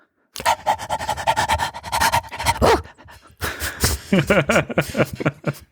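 A dog pants quickly and steadily, rapid breathy huffs running for several seconds, pausing briefly, then resuming with a few soft whiny tones mixed in.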